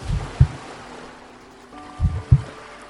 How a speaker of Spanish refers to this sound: Mientras estás en este estado de conexión, percibes el sonido del mar. Escucha.